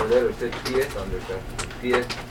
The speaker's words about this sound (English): This eagle makes some kind of noise.